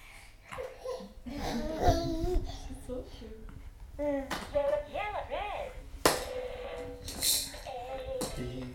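A few sharp, scattered hand claps ring out, mixed with a young child's babbling and giggles, with no steady clapping rhythm.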